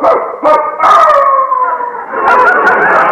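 A dog named Wolf howls loudly on the front porch after breaking out of the Dentons' backyard, a long sustained wavering howl with a few sharp yips breaking in at the start and again near the end.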